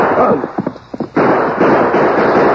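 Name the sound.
gunfire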